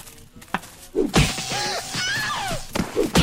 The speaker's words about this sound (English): Hey, there's the Wilhelm scream.